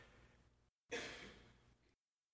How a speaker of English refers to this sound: Somebody yawned. That means I need to amen soon.